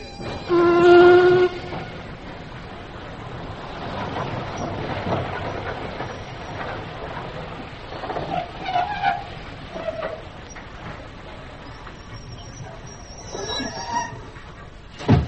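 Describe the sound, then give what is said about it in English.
A train pulls in with a loud whistle blast at the start, followed by a steady rumble of carriages, clanks and brief squeals as it slows, with no one speaking. “I thought you would be, seeing as you're the only one to get off the train.”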